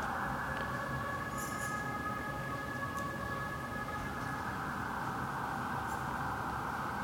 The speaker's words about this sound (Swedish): Ska jag vänta på den här syrenen bara lite? Syrenen.